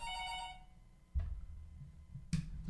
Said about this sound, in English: Hold on. We got the phone ringing up in here.